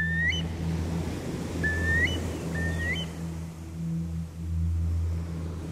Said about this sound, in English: All these different sorts of legends have the same feel about them, that nature and Christian belief are somehow very interwoven, and that a bird like the curlew has the voice of God in it, if you like.